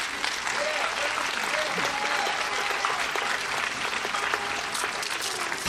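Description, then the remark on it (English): A large audience at the Florida Folk Festival claps steadily and fairly loudly for several seconds to welcome a five-child family band onto the stage, a dense, even wash of applause with faint cheering voices mixed in beneath it. “Let's clap them onto the stage.”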